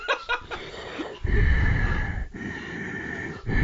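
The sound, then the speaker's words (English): A voice imitates the heavy, rasping breathing of a made-up superhero, Obesius, as the opening of an imagined movie trailer: a few short huffs, then long, loud, wheezy drawn-out breaths separated by brief pauses, with no words spoken. “The trailer would just start with Obesius breathing.”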